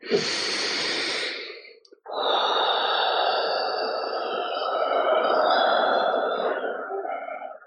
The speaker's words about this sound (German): Ich bin freies Fließen und nochmal atmen und atmen und atmen und atmen.